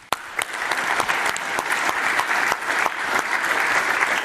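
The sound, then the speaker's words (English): A DNOC conference audience applauds its speakers steadily, a dense wash of many hands clapping at once with sharp individual claps popping out, sustained at an even, fairly loud level throughout. “but you can clap again.”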